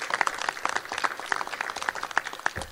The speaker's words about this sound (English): Let's give Jessica another great big round of applause.